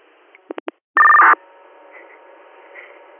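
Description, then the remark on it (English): Radio dispatch paging tones: three quick, evenly spaced beeps, then a louder, steady electronic tone held for about half a second, followed by faint radio hiss with no talking. “Would you like another set of tones?”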